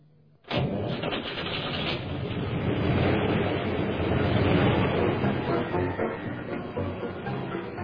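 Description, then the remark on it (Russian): After a brief near-silence, a car engine abruptly turns over and catches as the car is readied for an urgent trip, then settles into a loud, steady rumble that runs without a break to the end. “разбудите сержанта Патрашина, пусть приготовит машину. Я должен срочно ехать.”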